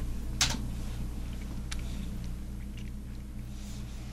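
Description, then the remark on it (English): Scattered, irregular taps on a computer keyboard as a stock ticker symbol is typed to call up a chart, a handful of sharp clicks with one louder strike near the start, over a steady low electrical hum. Nobody speaks. “Well, I'll tell you, either the keyboard or me is dysfunctional today.”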